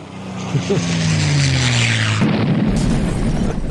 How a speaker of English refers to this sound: Do you have like a plane crashing That's hilarious. Sound effect?